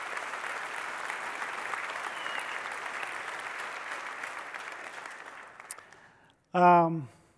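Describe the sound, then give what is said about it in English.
Sustained audience applause, a dense steady clatter of many hands clapping for about six seconds, fading out before a voice begins speaking. “I am so grateful for that applause.”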